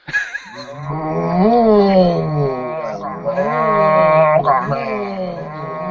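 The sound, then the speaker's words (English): Several cattle moo together in long, overlapping, drawn-out calls that rise and fall. The chorus is loud, holding steady for several seconds with no pause. “Want some cattle, said it en masse.”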